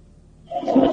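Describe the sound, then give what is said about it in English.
After a brief quiet moment, a toilet flush surges in with a loud rushing swell of water that carries on to the end. “It's the end of that last flush.”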